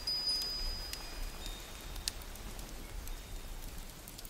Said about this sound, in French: Au dehors, une pluie tiède se déverse sur la nature et vous prenez un moment pour recevoir ces gouttes délicates sur votre visage. Écoutez la pluie, elle est douce, régulière, envoûtante.